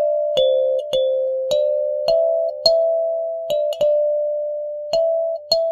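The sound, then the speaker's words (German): Soft, bell-like notes from an electric instrument picked up electronically like a Rhodes, played alone in a slow, gentle sequence, each with a bright plucked, kalimba-like attack that rings out warmly and sustains into the next. “Der Anschlag klingt wie eine Kalimba, also so glockenähnlich.”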